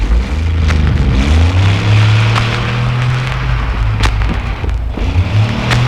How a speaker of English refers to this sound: Excuse me just a second. I got a truck running through here.